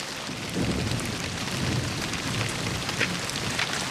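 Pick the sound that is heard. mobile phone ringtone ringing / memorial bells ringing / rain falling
rain falling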